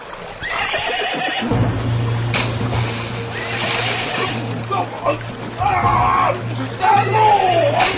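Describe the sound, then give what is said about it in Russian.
A horse neighs in rising, wavering whinnies while hooves splash and churn into water as a prince's retainer rides it across the Moskva River, with a steady low rumble beneath and brief voices. “Эй, дружинник мой верный, попробуй-ка здесь перейти реку верхом на коне.”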